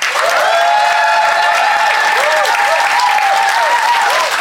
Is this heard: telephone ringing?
no